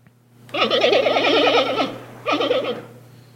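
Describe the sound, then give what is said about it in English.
A panda gives two bleating calls, a long quavering bleat followed by a shorter one after a brief pause, loud with no one talking. “I'm going to say that's a panda. It is, yeah.”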